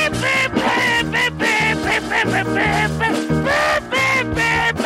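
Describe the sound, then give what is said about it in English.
A voice buzzes out a loud, brassy trumpet imitation, a nasal melodic line of sustained notes rising and falling with a few brief breaks over about five seconds. “Guys with trumpets, but we don't have them, but I do the same sound.”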